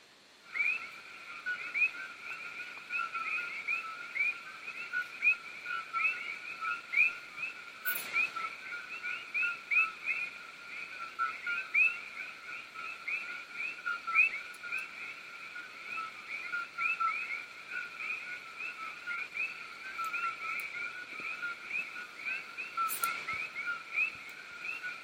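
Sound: coqui frogs calling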